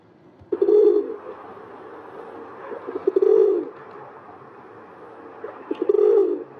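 An urban pigeon, a city bird native to Eurasia and North Africa, coos in three low, throaty phrases spaced a couple of seconds apart, fairly loud, over a soft steady background hum with no talking.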